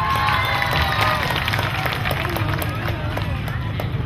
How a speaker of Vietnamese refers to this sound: Thưa quý vị, xin hiếu rất mong là với tiết mục này quý vị sẽ dành những tràng vỗ tay nhiều hơn nữa cho tiếng hát của thầy.